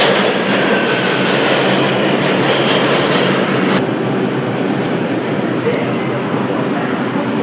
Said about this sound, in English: Here comes the train. It's the 4 train to Crown Heights, Utica Avenue.